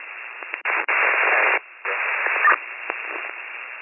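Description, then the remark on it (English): A garbled, unreadable radio transmission: narrow-band hiss and static with choppy bursts and dropouts, no intelligible speech coming through, steady and moderately loud for a few seconds. “I did not get the repair of your transmission. Can I cancel out the vehicle? Still unreadable.”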